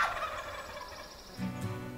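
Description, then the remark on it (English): A wild turkey lets out a loud, rattling gobble during a turkey hunt, a rapid burst of throaty warbling notes that rolls for about a second and then drops into a lower, rougher tail. “A dog started barking behind us, and then right behind us, we just heard a big, loud gobble.”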